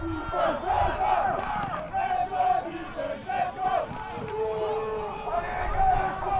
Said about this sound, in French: Chaque action est suivie par les encouragements frénétiques des tribunes.